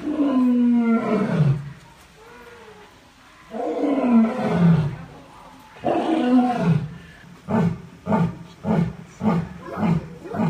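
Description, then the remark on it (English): Raja, a male Asiatic lion at the Zurich Zoo, roars: a few long, deep, moaning roars, then a series of shorter grunting roars repeating in a steady rhythm that fades out. No talking. “That was Raja, the male lion.”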